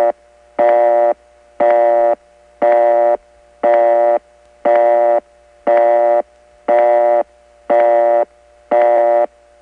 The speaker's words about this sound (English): Unlike Utica, the Auburn step doesn't have that ring in the back of its busy signal.